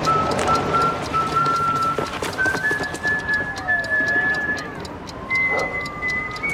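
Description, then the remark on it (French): A man whistles a slow tune of long, steady notes with a few gliding pitch changes, heard over a constant background hiss and scattered faint clicks: the whistling of the character Omar Little arriving in the series The Wire. “Alors, quel personnage célèbre de la série arrive en sifflant?”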